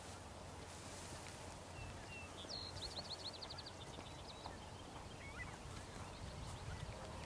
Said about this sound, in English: Just surrounded by trees and just like the full 360 sound of birds.